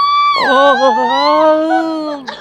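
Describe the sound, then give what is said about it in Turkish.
A woman's voice imitates the loud, sustained scream of a person with a nervous disorder who screams when touched with a fingertip: one long wavering high-pitched cry that starts abruptly and holds for about two seconds before trailing off. “Parmağınızın ucuyla böyle dokunacak olsanız avaz avaz bağırmaya başlıyor. İşte böyle.”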